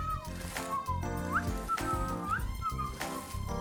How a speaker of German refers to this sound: Er hat eine Harke in der Hand. Er pfeift ein fröhliches Liedchen und fängt an, das Laub im Vorgarten zusammenzuharken.